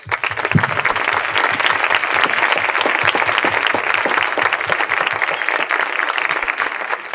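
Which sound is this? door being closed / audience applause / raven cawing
audience applause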